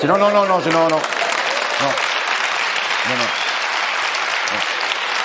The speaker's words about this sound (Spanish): Gracias. Pero el aplauso de la lástima no lo quiero yo, ¿eh?